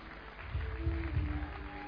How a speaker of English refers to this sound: Give the Lord a clap offering for my daughter.